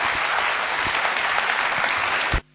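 Loud, steady applause from an audience welcoming a guest from Gyan Sarovar who is invited to sing, dense clapping sustained for a couple of seconds before cutting off abruptly near the end. No voices are heard over it.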